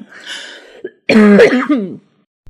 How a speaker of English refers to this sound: Oh God. Okay. Cough really punctuates it. Yeah, maybe I can turn those into sound effects.